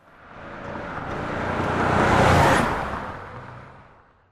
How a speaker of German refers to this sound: Klar, das erkennst du sofort. So klingt ein Auto.